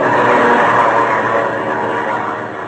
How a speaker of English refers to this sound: I lose that plane every few seconds because of these tree branches.